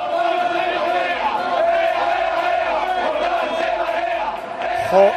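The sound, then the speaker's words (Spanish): A large crowd of Real Betis football fans chants loudly in unison at an opposing player after a match, massed voices roaring a sustained, rhythmic taunt that carries steadily for several seconds with a brief swell at the end. “los béticos le gritan esto a Jordán”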